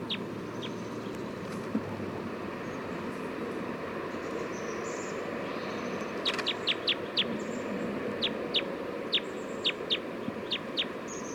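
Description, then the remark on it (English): Bird calls from bird number 311, recorded at 11:51 a.m.: a few sharp, high chirps, then a quick run of repeated bright notes in the second half, all over a steady low rumble and hiss. No one speaks. “Recording bird 311 again.”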